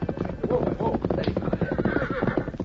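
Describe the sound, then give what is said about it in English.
A horse whinnies loudly, its wavering neigh rising and falling, while hooves clip-clop in a steady rhythm underneath as it is ridden into the hills beyond a town. “Dan went to the livery stable where he had left his horse, Victor. He rode into the hills beyond town”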